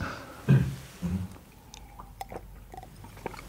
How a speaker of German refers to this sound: Ein Schluck Wasser vielleicht.